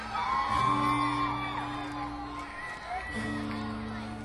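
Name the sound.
audience member screaming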